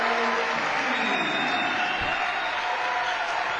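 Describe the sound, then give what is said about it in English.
A large basketball crowd at a game between Lindbergh and Dort, on their feet with the student section yelling, roars and yells continuously, a dense, steady wall of voices and cheering without letting up. “Crowd on their feet. Student section yelling.”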